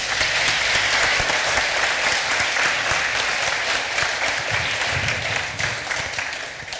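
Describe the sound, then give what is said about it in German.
Sustained audience applause for the confirmands, a dense crackle of many hands clapping at a steady, fairly loud level for several seconds, tapering slightly at the end. “Hey, einmal Applaus für die Konfis.”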